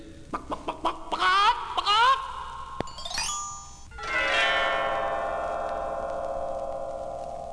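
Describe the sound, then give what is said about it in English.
A golden hen named Gwendolyn, on a table in a giant's big stone house, clucks in a quick run of short, nasal bursts, then a bright rising chime rings out and lingers, fading slowly. “And there's my hen on the table. Lay me another golden egg, Gwendolyn.”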